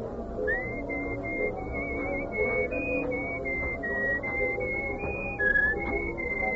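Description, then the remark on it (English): Someone whistles a melody, a steady series of clear sustained notes stepping up and down in pitch, played over a soft background murmur with no talking. “Well, you were whistling our tune, so I thought you were expecting me.”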